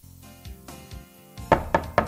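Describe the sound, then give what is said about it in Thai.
Three sharp, evenly spaced knocks on a door sound loud near the end, following a quiet stretch with a soft, low tonal hum underneath. “I hear someone knocking on a door”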